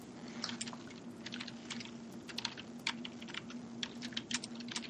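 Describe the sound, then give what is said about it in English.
Rapid, irregular clatter of keys on a computer keyboard, moderately loud, with a steady low hum underneath and no voices. “I'm typing too.”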